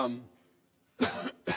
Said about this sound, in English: I'm sorry for this cough. I really am.